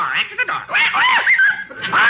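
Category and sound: bird, parrot squawking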